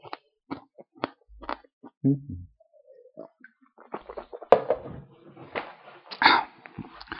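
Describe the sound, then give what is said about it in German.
Close-up crinkling and clicking as a cough drop is unwrapped and popped into the mouth, with scattered small mouth sounds and a few louder rustling bursts toward the end; no talking. “Ich muss meinen Hustenbomben machen. Kommt so viel Flüssigkeit rum.”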